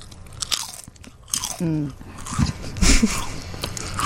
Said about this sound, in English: This is what a barbecue potato chip sounds like when you chew it on the air.